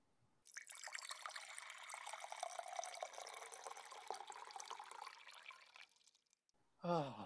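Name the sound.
water being poured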